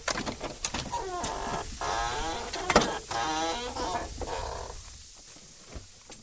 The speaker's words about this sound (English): He starts jacking the car up.